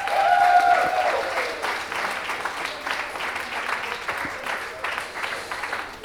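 Steady applause from a crowd, a dense wash of many hands clapping that stays fairly even for six seconds, strongest at the start and easing slightly, with a brief whistle early on.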